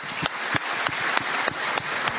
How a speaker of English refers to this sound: That was pretty cool. How about you give the Lord one more of a round of applause?